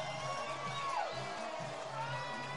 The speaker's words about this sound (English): And San Jose's crowd getting excited for the 2-run homer for Eldridge.